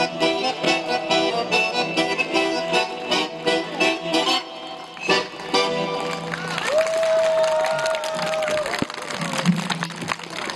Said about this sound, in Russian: организаторов концерта, встречали аплодисментами.